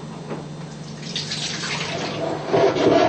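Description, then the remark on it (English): Water pours out steadily in a continuous splashing stream, fairly loud, growing heavier and fuller near the end, as cloudy rinse water is drained off washed rice. “You squeeze the rice gently, you know, so wash away all the dirt. Alright, and we drain the water out again.”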